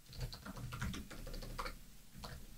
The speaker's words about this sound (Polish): Proszę bardzo, nawet było słychać jak tutaj klikam.